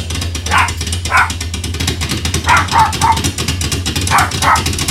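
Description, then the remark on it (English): A dog barks in short bursts, a couple at a time with brief pauses, moderately loud over a constant rushing background noise. “It sounds like a serious hailstorm, but also a dog barking.”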